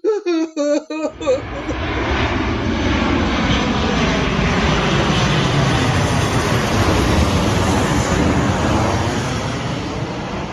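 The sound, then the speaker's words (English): A brief burst of voices gives way to a loud, sustained roar of an airplane passing overhead, its engine noise filling the remaining ten seconds. “What's that dot on the horizon? Oh, dear Lord, it's a plane.”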